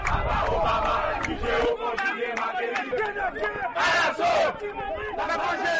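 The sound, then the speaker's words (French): A protest crowd in Haiti's capital, marching from outside Saint-Jean Bosco church on Boulevard Jean-Jacques Dessalines, shouts slogans against the government together, many voices rising in loud, ragged chants with bursts of cheering over a steady roar of voices. “Protestataire yo tap lancé un pli parole piment bouc contre équipe en place là.”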